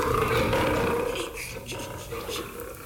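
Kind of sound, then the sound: animal, big cat roaring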